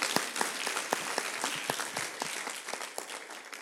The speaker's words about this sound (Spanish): ¿Qué le parece? ¿No es digno de que le demos un aplauso al Señor? Amén.